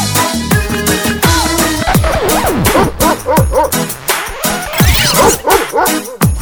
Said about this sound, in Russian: Здорово, пес! Какой толковый бультерьер.